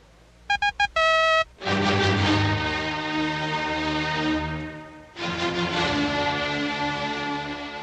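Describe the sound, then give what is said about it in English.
WTIC radio station's hourly time signal, first aired July 14, 1943: Morse code letter V, three quick high beeps and one longer beep, followed straight away by loud, full orchestral music that keeps playing to the end. “That signal was the Morse code di-di-di-da for the letter V, which henceforth would characterize a trademark on the hour, symbolizing broadcasting with responsibility.”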